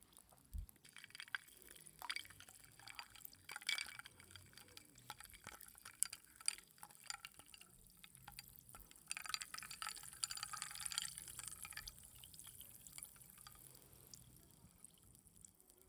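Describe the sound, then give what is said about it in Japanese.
Barley tea is poured into a glass: a soft, continuous trickling stream with rising and falling splashy bursts, fairly quiet, with no voices. “涼しくなる音。なんか、おばあちゃん家思い出すよね。 おばあちゃん？ うん、麦茶の音。”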